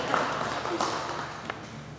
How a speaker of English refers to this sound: Round of applause for the people.